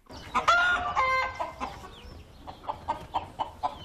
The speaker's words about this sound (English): Dozens of roosters, hens and chicks gathered around a car park at the Titirangi War Memorial Park today, where contractors had placed food to lure them.